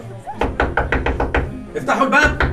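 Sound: knocking on a door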